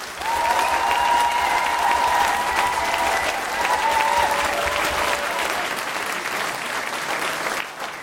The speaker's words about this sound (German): bitte auch einmal ganz laut klatschen.